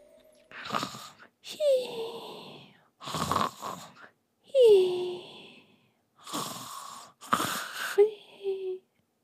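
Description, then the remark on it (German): Soft snoring of a sleeping marmot, imitated by a voice: about four rhythmic cycles of breathy inhales and whistling, wheezy exhales, fairly quiet, with short pauses between breaths. “Die beiden Socken vernahmen das leise Schnarchen”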